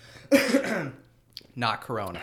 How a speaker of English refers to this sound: Not Corona. You have to announce that when you cough, by the way.